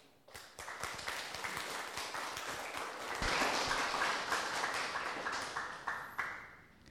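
Warm applause from an audience welcoming a Buddhist Dharma master before his talk, a dense steady patter of many hands clapping that swells midway, holds loud for several seconds, then tapers off near the end. No one speaks.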